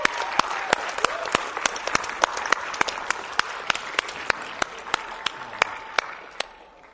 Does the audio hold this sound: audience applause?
yes